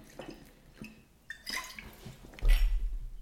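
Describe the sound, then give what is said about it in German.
Someone takes a quick sip of water: a few soft wet clicks and slurps, then a louder, fuller swallow near the end, with no talking. “Ich nehme nochmal schnell einen Schluck Wasser.”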